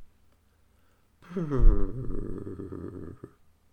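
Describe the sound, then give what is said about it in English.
After a moment of silence, a voice imitates a cat's purr: a low rumbling that starts with a brief gliding tone and then vibrates steadily for about two seconds. “He could hear a purr.”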